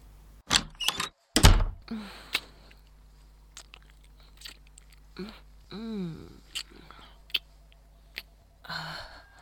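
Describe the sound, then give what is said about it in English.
A door opens and shuts with a few sharp clicks and a heavy thunk near the start, followed by quiet rustling and soft breathy sighs. “Not even through the door for 10 seconds”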